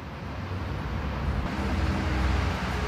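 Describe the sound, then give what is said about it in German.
Steady street traffic of cars rumbles along as a bus turns the corner and a cyclist passes, a broad continuous wash of engines and tyre noise swelling slightly louder toward the end, with no voices present. “Die Autos fahren, ein Bus biegt um die Ecke, Fahrradfahrer geht vorbei, ein Dude beißt in seinen Döner, eine Family kommt auf dem Fahrrad angefahren, kleines Klingelkind.”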